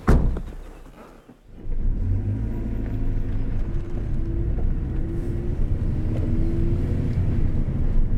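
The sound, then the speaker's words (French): A car engine hums steadily while driving, a low continuous rumble with faint rising tonal whine as it accelerates, moderately loud, preceded by a brief start-up burst. “Allez, en voiture. En voiture.”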